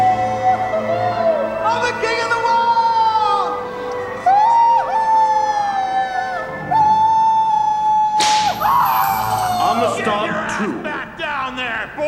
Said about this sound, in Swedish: Och så får han en piska i ryggen.